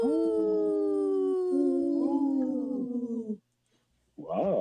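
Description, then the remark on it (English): Several people howl together in imitation of a wolf pack, long overlapping wavering notes sliding downward for about three seconds, then a brief silence before another howl starts. “Wow, that was a good pack howl, you guys.”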